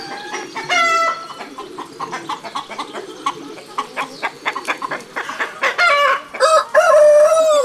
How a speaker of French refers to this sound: Le coq fait cocorico. Il a de belles plumes de toutes les couleurs et une crête rouge sur la tête. Le matin, il se lève très tôt et réveille tout le monde en chantant.